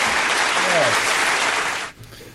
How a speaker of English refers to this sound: We're grateful to Performing Arts Live for lending their support to our live arts calendar. Throw some applause their way.